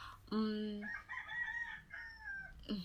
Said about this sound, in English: Thank you very much, Mr. Rooster.